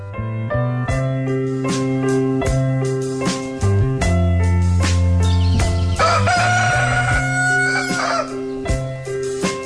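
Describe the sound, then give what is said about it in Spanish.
A rooster crows with a long, wavering cock-a-doodle-doo near the end, fairly loud, over a steady backdrop of sustained, rhythmic musical tones that carry through the whole stretch. “¡Ay, ese gallo!”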